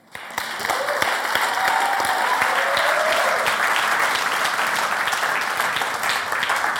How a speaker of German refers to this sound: Mein Applaus für Jesus.